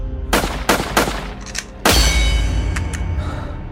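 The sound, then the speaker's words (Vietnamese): Several sharp, loud gunshots crack in quick succession, the last one followed by a long, booming echo and ringing metallic tail, depicting Charles Joseph Whitman firing repeatedly at his mother and wife in a house in Texas on the night of 1 August 1966. No voices are heard. “Giữa đêm ngày 1 tháng 8 năm 1966, tại một căn nhà thuộc bang Texas, Hoa Kỳ, Charles Joseph Whitman, lúc này 25 tuổi, đã cầm súng nã liên tục vào mẹ và vợ mình.”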